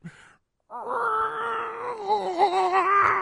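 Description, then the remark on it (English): A person imitates a cat shut in behind closed doors yowling to be let out, making one long, drawn-out, wavering moan that holds steady and loud for a few seconds after a brief sound at the start. “When I go by, I feel so bad because this is the sound that I hear.”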